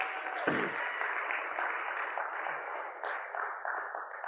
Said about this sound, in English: Thank you. More of that. Come on, let's applaud the One.